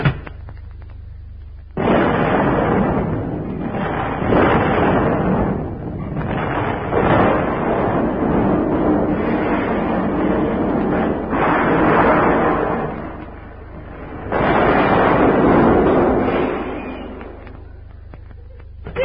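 Loud, roaring blasts of a dynamite explosion rumble in long sustained waves, swelling and easing over several seconds each, with brief lulls between. No voices are heard.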